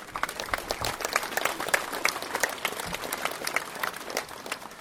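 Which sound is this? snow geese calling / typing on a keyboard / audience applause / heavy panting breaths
audience applause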